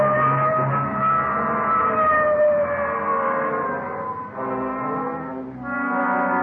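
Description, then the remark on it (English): A loud police car siren wails steadily for several seconds, its pitch gliding slowly downward before brief dips and a renewed rise, as the car responds to a shooting call near Washington and Figueroa. No voices can be heard. “Okay, hit the siren.”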